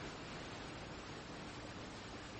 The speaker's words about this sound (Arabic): إخواني هذا هو أطول شلال في العالم